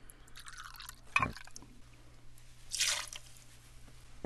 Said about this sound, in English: Now we're going to add 2 ounces of rye whiskey. There's several brands out there. Take 2 ounces of that and put that in your mixing glass with your sugar that has the bitters. 2 ounces of the rye whiskey going into the mixing glass.